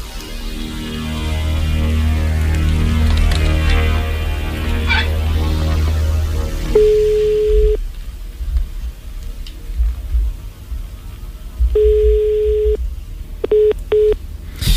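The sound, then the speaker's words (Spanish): An outgoing phone call to Pipiolillo rings unanswered: two long, steady electronic ring tones spaced several seconds apart, then a few short clipped beeps, after a muffled rumbling opening. “O no nos ha querido coger el teléfono Pipiolillo.”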